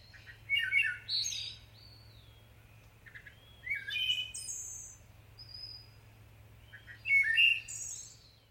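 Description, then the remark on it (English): A wood thrush sings three clear, flutelike phrases separated by short pauses, each ending in a higher trill, with a steady low hum underneath and no voices. “And the wood thrush in particular, it's such a rich, rich song that is pitched and is at a tempo that is sort of matched to the human ear.”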